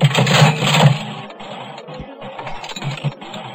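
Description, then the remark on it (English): A slot machine arm is pulled by pressing the enter key, with four coins inserted, and the reels spin with a loud mechanical whirring rattle that eases slightly and keeps clattering steadily for a few seconds, with no talking. “They're going to hit the enter key to pull the arm.”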